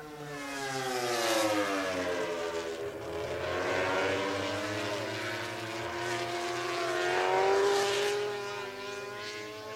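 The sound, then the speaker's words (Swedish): Several racing cars roar past, their engine whines rising and falling in pitch as they pass, with a steady rumble of more traffic in the background; trailing cars in a 24-lap race make their final passes in front of the Stekenvall grandstand. “Och samtidigt som de som har halkat efter i loppet gör sina sista passeringar framför oss i Stekenvall-tribunen, så har de allra främsta redan gått i mål.”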